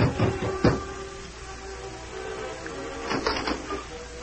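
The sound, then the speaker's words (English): Soft, muted knocks by Dan Reed on the wooden door at the Bar H in the early evening: a couple of quiet raps at the start, a pause, then a short cluster of gentle taps over a faint steady background hum. “It was early evening when Dan Reed knocked softly on the door at the Bar H.”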